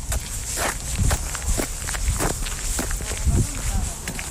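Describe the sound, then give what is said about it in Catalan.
Light footsteps crunch across sandy ground on a flat, well-kept path at a steady walking pace, roughly eight or nine distinct steps over a soft gritty hiss. “Passes airoses, sobre un terra sorrenc, més o menys, no?”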